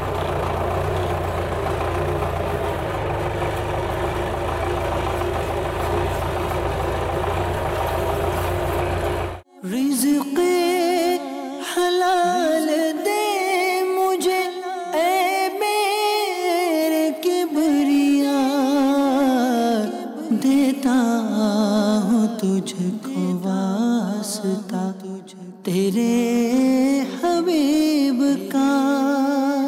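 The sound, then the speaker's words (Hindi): A tractor engine runs, first a steady low rumbling idle, then a louder, harsher drone whose pitch rises and falls as it works, with no one talking; the tractor cultivates the soil, turning it over, and has very heavy steering. “मेरे बस की बात तो नहीं है, इतना हैवी स्टेयरिंग है ये। इसको जब मैं टर्न कर रहा था ना, ऐसा लग रहा था कि कोई गाड़ी जो ना वो ज़्यादा टर्न ना हो जाए ना, गाड़ी उल्टी होने का अंदेशा होता है।”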